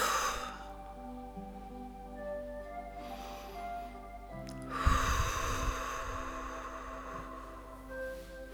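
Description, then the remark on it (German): Three slow, deep breaths drawn in and let out during a guided relaxation, soft, spaced a couple of seconds apart over a steady, quiet musical drone. “Wir atmen dreimal tief ein und aus.”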